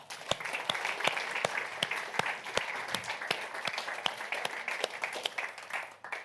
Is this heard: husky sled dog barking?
no